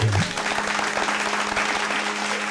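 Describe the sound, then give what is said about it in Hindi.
A crowd applauds steadily after a call of 'thoko taali' in a mock sermon by someone in the style of a Sidhu fan, dense overlapping claps filling the space at a consistent loudness, with a brief voice fragment at the very start before the clapping takes over. “ठुको ताली।”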